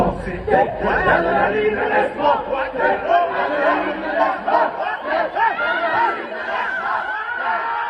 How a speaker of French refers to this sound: Sur cette tournée, c'est on dit laisse monter l'adrénaline, laisse monter l'adrénaline. Et on dit de plus en plus fort jusqu'à hurler.